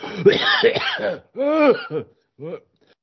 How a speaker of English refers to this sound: Hold on, why I have a big cough.